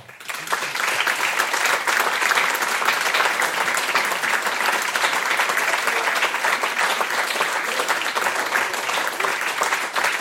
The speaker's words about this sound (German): Und ich würde mich natürlich noch mehr freuen über einen riesengroßen Applaus für ….